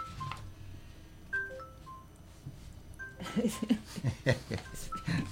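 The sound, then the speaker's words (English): A cell phone rings during an art lecture with a series of short electronic beeping tones, fairly clear over quiet surroundings, followed by a burst of louder, scattered audience noise and voices. “I should have shut my cell phone off.”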